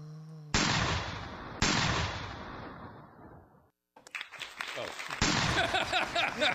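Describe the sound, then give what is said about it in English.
Two sharp gunshot blasts ring out about a second apart, each fading in a long tail, followed after a brief gap by a burst of rapid, crackling shots and clatter. “Apparently you shot someone that the crowd didn't like.”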